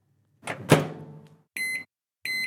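A microwave oven door closes with a solid thunk, then two short, clear electronic beeps sound from the appliance, with no one talking.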